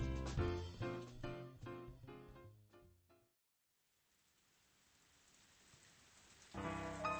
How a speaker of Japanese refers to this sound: 降ったりやんだりするような小雨が好きなので、気分転換に傘を持ってちょっとした散歩に出ていた。